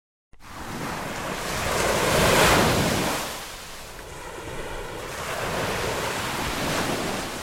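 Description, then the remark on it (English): Gentle ocean waves wash onto a beach in summer in two slow swells, the first building to a soft crash around the middle, then a second broad surge, with steady breezy hiss throughout and no voices. “Just hearing those gentle crashing waves evokes images of sand on your toes, reading at the beach, and electricity.”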